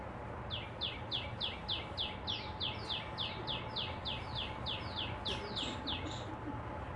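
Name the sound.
bird singing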